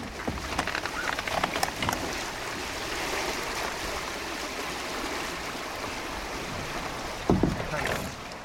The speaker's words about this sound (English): We're in a Dart 16. It's a catamaran made by Laser. It's a plastic-hulled, twin-hulled boat with a net mesh in between. It's approximately 20-foot mast, pretty big sail for a dinghy